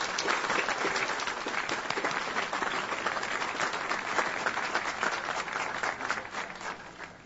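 Sustained applause from a large audience honouring the celebrant, the Archbishop of Ljubljana and president of the Slovenian Bishops' Conference, a dense wash of many hands clapping steadily for several seconds, fairly loud and even, tapering slightly at the end.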